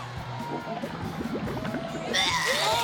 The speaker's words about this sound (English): She projectile vomits over everybody.